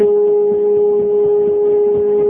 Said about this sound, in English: Now, if we could hear this baby's brainwave, it might sound like this.